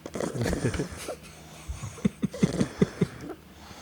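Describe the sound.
A voice mimics snoring: a few rough, breathy rasps, then a quick run of short, pulsing snorts. No words are spoken.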